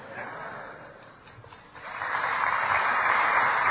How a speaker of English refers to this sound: Now, I don't know what that applause means, but thank you anyway.